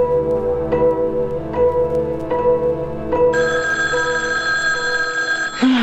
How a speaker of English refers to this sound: Now what? All right. Let me answer it. Just hand over the phone, huh?